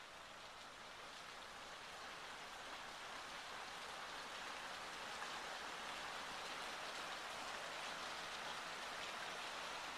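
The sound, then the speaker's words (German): Steady rain falls in a dense, continuous hiss with a fine patter of drops, swelling slightly over time and staying soft and even throughout, with no voices. “Es beginnt zu regnen.”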